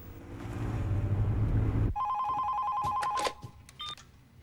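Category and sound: signal or alarm, phone call ringing tone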